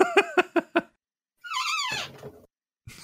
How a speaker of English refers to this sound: Chair noise.